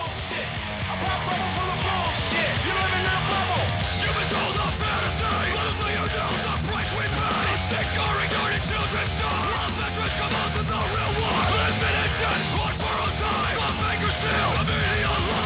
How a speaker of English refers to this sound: I guess he's scream rapping. It's awful. Yeah. Yeah. Trash. Unlistenable.